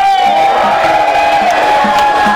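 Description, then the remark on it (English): A rally crowd of about 200 or 300 working Californians cheers and shouts loudly and steadily, many voices blending into a continuous roar with whoops and high shouts rising above it, sustained without pause. “Jesus, if you're not going to make noise, take it now!”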